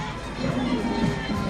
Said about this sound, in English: Getting applause, waves